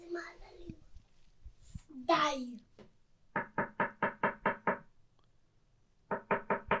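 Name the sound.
knocking on a door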